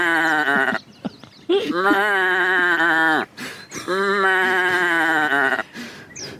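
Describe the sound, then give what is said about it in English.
A voice imitates a sheep with three long, wavering bleats, loud, separated by short pauses and a quick breath. “A sheep? Sheep.”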